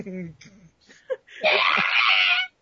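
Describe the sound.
A voice makes a loud, raspy, high-pitched inhaled scream lasting about a second, imitating a dinosaur roar by sucking in air rather than exhaling, after some brief vocal sounds and breaths.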